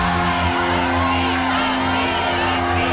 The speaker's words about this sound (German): Erlebe, wenn ein ganzes Stadion schreit.